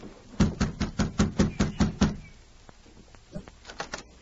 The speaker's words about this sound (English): Better knock on the door instead of calling out. Yeah, I will.